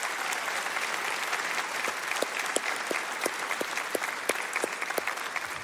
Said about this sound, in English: Come on, would you give me a big round of applause for all the moms in all of our campuses online? Happy Mother's Day, Mom.